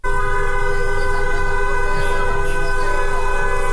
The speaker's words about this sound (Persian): در میدان تجریش تهران نیز گروه‌هایی از دخترانی که حجاب از سر برداشتند با همراهی پسران دست به راهپیمایی در منطقه زده و خودروهای عبوری نیز با بوق‌های ممتد از اقدام آنها حمایت می‌کنند.